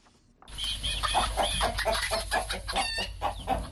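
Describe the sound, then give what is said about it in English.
Many chickens reared in Santa, on the outskirts of Bamenda in northwest Cameroon, cluck and squawk at once in a busy, continuous chorus, fairly loud, with a steady low rumble of background noise underneath and no talking. “rears chicken in Santa on the outskirts of Bamenda in northwest Cameroon.”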